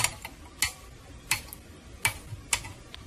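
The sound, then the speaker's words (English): A series of sharp, crisp snips from wire cutters clipping off the leads of five soldered resistors, about five distinct clicks spaced irregularly with a few softer ticks between, over a faint background hum and no talking. “We'll clip off all the leads.”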